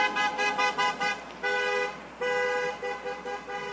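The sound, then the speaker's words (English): Car horns honk repeatedly from vehicles passing a small flag-waving pro-Trump rally, honking in support, under overcast skies with heavy rain showers: a rapid series of short toots, then several longer sustained blasts, loud, with no talking. “Between overcast skies and heavy rain showers, the group waved their flags as vehicles passed by, some honking their horns in support.”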